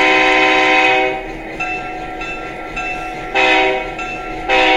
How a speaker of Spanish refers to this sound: ¿Corto? Sí. Largo y corto. Largo y corto. A ver, el claxon, por llamarlo de alguna manera, silbato. Del tren. O el silbato, perdón, el silbato. ¿Por qué largo y por qué corto?